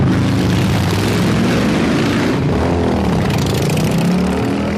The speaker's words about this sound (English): I will hear a Harley-Davidson coming, and still in my brain, it triggers... Oh, here comes a really powerful motorcycle. It must be going 100 miles an hour, and then the Harley-Davidson goes by at 20 miles an hour.